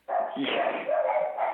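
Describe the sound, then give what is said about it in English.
Several dogs bark and yip continuously and loudly as someone comes to the front door, their overlapping barks filling the whole stretch with an excited, agitated chorus. “Somebody just came to the front door.”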